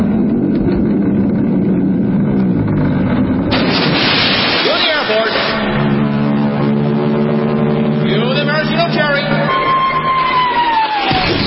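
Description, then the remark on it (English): A loud sound effect of a huge crowd of 25,000 extras cheering, a dense sustained roar of many voices, mixed with tonal blasts partway through and a sliding whistle-like tone near the end. “Okay, 25,000 cheering next ride.”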